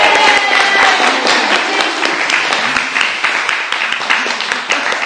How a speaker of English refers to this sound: Thank you. Thank you. Thank you. Can we clap for the play?